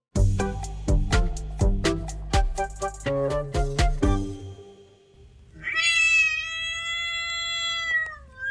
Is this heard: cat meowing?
yes